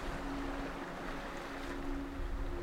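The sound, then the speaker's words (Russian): Ocean waves wash in a steady, continuous roar, with a faint low hum running underneath and no voices. The surf holds an even level throughout, swelling only slightly toward the end. “Продолжайте наблюдать, как волны приходят и уходят.”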